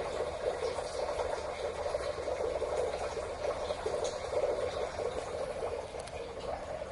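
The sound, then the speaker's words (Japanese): A steady, continuous trickle of water running through an underground culvert, a small stream beneath a two-lane roadway, with a faintly hollow, enclosed quality, holding an even level from start to finish with no voices. “ちょろちょろと水の音が聞こえるでしょうか。この車道の下には暗渠がありまして、要するに、ちっちゃな川が流れているので、こういう音がしてますね。”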